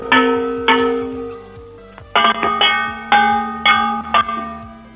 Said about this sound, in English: I've got a device hooked up to the phone. I'm measuring the frequency that the bangs make to make sure it's real copper. Can you just do like... Well, it is real copper. It's been tinned. We've had it re-tinned.